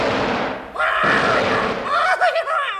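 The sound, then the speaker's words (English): A single sharp gunshot, fired at a peasant mistaken for a pheasant, cracks out over a noisy background, leaving a rough burst of noise, followed by a wavering vocal cry. “Oh, dear, I shot off his laundry marks.”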